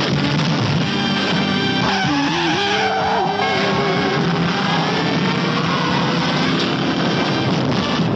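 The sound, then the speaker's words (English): Loud car engines roar and rev as tires squeal and skid repeatedly. A Challenger is being chased by police traffic squad cars in a continuous, frantic burst of high-speed driving, with no talking. “The Challenger being chased by the blue meanies on wheels, the vicious traffic squad cars are after our lone driver, the super driver of the Golden West.”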